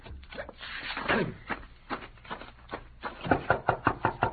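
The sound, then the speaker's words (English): A series of sharp knocks on a wooden door, scattered at first, then a quick, steady run of about six raps. Fairly loud, with a muffled, band-limited quality. “Open the door, Robley.”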